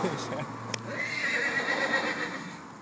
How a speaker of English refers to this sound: Yeah. See if it whinnies. Come on, whinny.